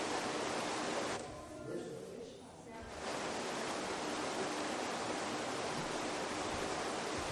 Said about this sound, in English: You heard the fish ladders that go around the dam.